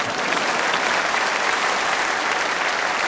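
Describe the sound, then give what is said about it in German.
A live audience claps steadily, a dense wash of many hands at fairly loud, even volume throughout, with no talking over it. “Und unser Problem ist, klatschen Sie ruhig.”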